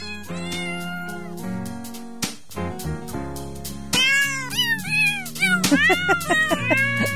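Cat meows pitched to carry a festive holiday melody over a steady musical backing, loud and continuous, with the meows growing busier and more sweeping in the second half.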